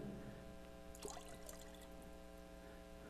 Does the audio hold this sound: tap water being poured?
yes